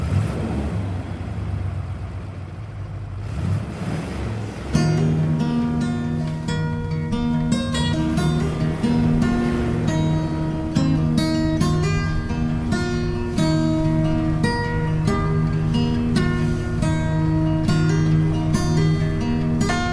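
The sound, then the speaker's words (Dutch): The small engine of a bright yellow Citroën 2CV drones steadily, heard from the back seat: a low rumble that swells into a louder, buzzing hum as it picks up speed, with no one talking. “Ik zit op de achterbank van een knalgele Citroën de Chevaux.”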